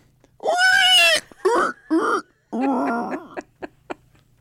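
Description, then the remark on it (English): A person from Nebraska imitates a pig's squeal, loud: one long shrill squeal, two short squeals, another drawn-out squeal, then a few quick grunting snorts. “Are you good at squealing like a pig?”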